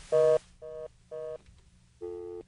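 telephone keypad dialing tones

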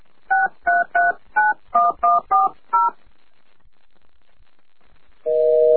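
telephone keypad dialing tones

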